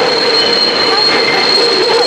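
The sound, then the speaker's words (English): A train approaches, rumbling steadily with a high, sustained squeal of wheels on the rails, loud and continuous throughout with no voices. “Oh, the train's coming.”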